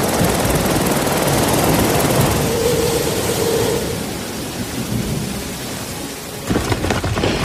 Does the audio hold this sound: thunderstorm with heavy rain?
yes